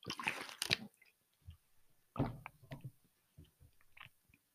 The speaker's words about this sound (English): I'm drinking my water.